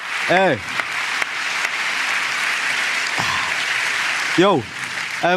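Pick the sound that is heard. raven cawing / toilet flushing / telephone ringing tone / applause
applause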